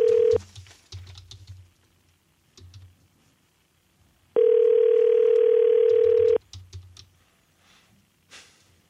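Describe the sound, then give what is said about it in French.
A steady telephone dial tone sounds briefly at the start, then returns for about two seconds, loud, with soft keypad-like clicks and taps scattered around it, as a phone call is being placed. “OK, on va essayer on l'appelle. On essaye ça. OK, va créer un appel.”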